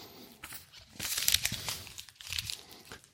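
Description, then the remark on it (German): Paper being scrunched up into a ball, a run of dry crackling crinkles with a louder crunchy burst in the middle and no voices. “Ich könnte einen Papierknoll nehmen.”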